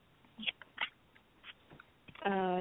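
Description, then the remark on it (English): Several short, soft rustling bursts of cards being shuffled by hand, followed by a sustained hummed or voiced tone at the end. “I'm going to put the phone down and shuffle my cards around a little bit.”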